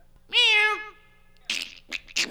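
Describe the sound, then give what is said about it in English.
A person voices a single drawn-out, wavering cat meow, loud, followed by a few short breathy, hissing bursts. “Meow. And bird and weird shit, fart sounds. Yeah, like that.”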